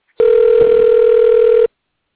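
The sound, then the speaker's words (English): A steady, continuous electronic phone tone holds one mid pitch for about a second and a half, then cuts off abruptly, like the tone of an outgoing call being placed. “So let me give him a call.”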